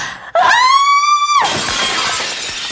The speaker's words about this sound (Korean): 그때 프랑켄슈타인의 머리 위쪽 어디선가 날카로운 비명이 점막을 갈랐다.